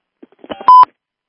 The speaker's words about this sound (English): You know, I just heard another little beep there. Do we have someone else on the line?